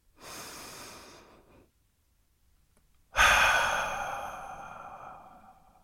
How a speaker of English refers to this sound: So, if you're ready, let's take a deep breath.